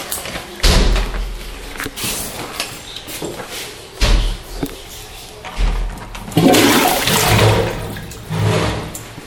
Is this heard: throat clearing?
no